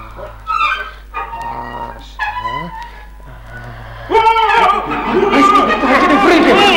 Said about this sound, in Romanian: De ce ai scuturat așa de grabă? Am auzit niște șuirături și urlete îngrozitoare și m-am speriat.